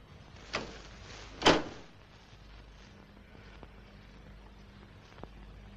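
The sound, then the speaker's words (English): A man shuts the front door of Mrs. Freeman's house and leans on it: one solid, booming thud, preceded by a softer knock. Quiet room tone follows, broken only by a faint click near the end, with no voices. “He shuts the front door and leans on it, rubbing his face wearily.”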